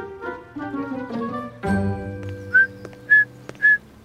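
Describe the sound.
A person whistles three short, bright chirps, each sliding upward like a bird call, evenly spaced and loud, following and layered over a soft, sustained tonal musical background.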